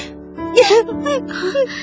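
Someone sobs and cries while hugging another person, with breathy gasping intakes and wavering, whimpering voiced wails rising and falling over a couple of seconds, fairly loud, with no clear words spoken.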